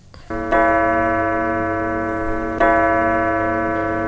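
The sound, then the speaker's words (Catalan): A clock chime rings thirteen times with slow, resonant strikes about two seconds apart, each tone sustaining and humming richly before the next stroke lands, with no talking. “El rellotge ha sonat 13 voltes.”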